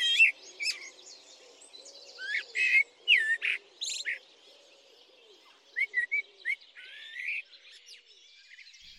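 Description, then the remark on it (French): A Eurasian blackcap sings rich, fluty warbling phrases in two bursts separated by a short pause, clear over a faint low background hum. “Ah bah voilà une bien belle chanteuse là maintenant. C'est la fauvette à tête noire.”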